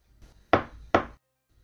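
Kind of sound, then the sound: household object, knocking on a door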